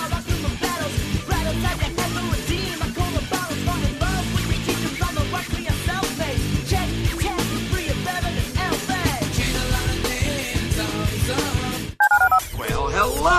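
telephone keypad dialing tones

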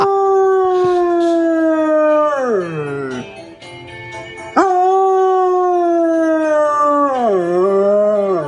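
dog howling

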